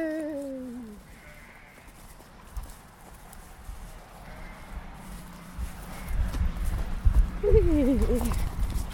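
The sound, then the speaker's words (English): Sheep and lambs, mostly ewes with twins, bleat in wavering calls, one at the start and another near the end, over a low background of shuffling and thudding hooves that grows louder. “Oh, most of them have twins landing. Hello, babies.”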